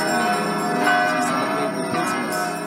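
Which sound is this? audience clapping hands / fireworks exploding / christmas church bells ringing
christmas church bells ringing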